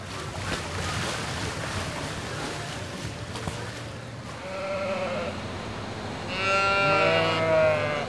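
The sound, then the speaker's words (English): Oxford sheep bleat at the Illinois State Fair, being readied for the show ring, over a steady wash of busy outdoor background noise, starting with a softer call midway and then a loud, drawn-out bleat near the end. “I am getting our Oxford sheep ready to go to the show ring here in this afternoon, probably about an hour or so.”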